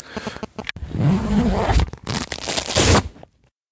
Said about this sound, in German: So, ich stopfe jetzt mein Pfeifchen.